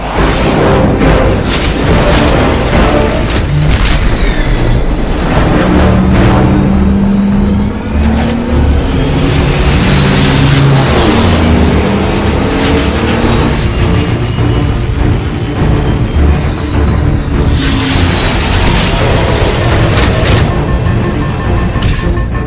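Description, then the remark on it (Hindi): A powerful main engine starts and roars loudly and continuously, its pitch rising and surging as it revs up, with bursts of booming rumble and a steady high whir throughout; no voices. “Main engine start हो गया है।”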